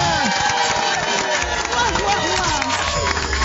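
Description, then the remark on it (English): A crowd cheers and shouts together in the last seconds of the Heart Breakfast radio show, a loud, dense roar of many voices that holds steady for a few seconds with excited yells rising through it. “Yeah, big cheer from everyone here.”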